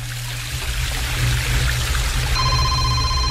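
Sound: waterfall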